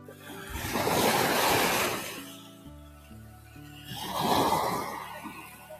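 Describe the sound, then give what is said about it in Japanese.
Ocean waves break on the shore in two slow surges, each swelling into a broad hiss of surf and then receding, with a soft, steady wash in between and no talking; recorded at the shore early in the morning before sunrise. “こんな感じで、波音を聞いていただけるので、しばらく波音とね、鳥の声に耳を澄ませていただけたらと思います。”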